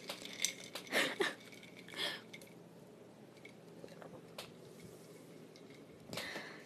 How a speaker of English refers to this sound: I'm gonna drink some of my water real quick. I just have to stir it.